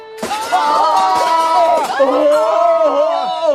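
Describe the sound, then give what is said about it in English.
A crowd of many voices screams in terror as a huge chandelier crashes into the audience at an opera house, loud, the overlapping high-pitched cries starting abruptly and holding steady without letup for several seconds as the crowd runs away. “There were screams of terror, and the crowd ran away from the opera house.”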